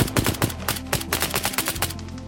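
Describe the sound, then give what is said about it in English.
Rapid bursts of gunfire crack out in quick succession, a dense, sharp rattle of shots fired repeatedly over a low rumbling background, with no voices: Ukrainian soldiers on the front line of the war with Russia shooting at Russian Orlan 10 drones. “That's the sound of Ukrainian soldiers shooting at Orlan 10 drones, arguably Russia's most important asset on the battlefield.”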